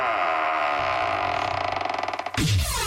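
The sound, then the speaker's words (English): The semi-famous vault door of radio station WRJN groans open with a long, loud metallic creak that breaks into rapid ratcheting clicks, then ends in a deep booming clunk and a short rumble. “Let's open up that semi-famous vault door.”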